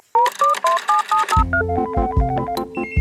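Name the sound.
telephone dialing tones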